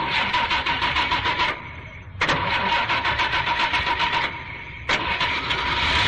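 An old car engine cranks and sputters in loud, rough bursts, twice dropping off briefly before roaring back, with no voices over it.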